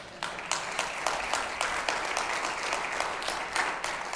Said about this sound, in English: Now, let me just say at the outset, I know that you're clapping because you don't hear this.